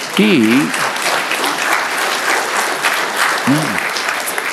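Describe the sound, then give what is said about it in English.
A crowd applauds steadily for the Lord, a dense wash of clapping that fills the whole stretch, with a couple of brief voiced shouts or cheers rising above it near the start and again later. “We clap for the Lord because he is beyond belief.”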